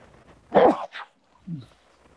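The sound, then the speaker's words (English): A single sharp sneeze bursts out, loud and breathy with a brief trailing gasp, followed by a soft low murmur before quiet. “Bless you. Thank you.”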